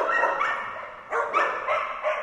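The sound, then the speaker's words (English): Several dogs bark and yap together in a steady, overlapping chorus, fairly loud, with fresh bursts of barking every half second or so and no voices. “These barking dogs are part of a financial trend that may soon explode across the United States.”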